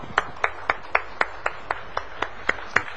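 A church audience claps together for a deacon in a steady, even rhythm, about a dozen sharp claps in three seconds, with no talking over them.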